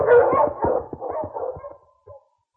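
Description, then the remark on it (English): A pack of husky sled dogs, led by King, barks in a noisy, overlapping burst on a snowy trail, with yips and a short whining howl trailing off before falling silent. “On, King! On, Huskies!”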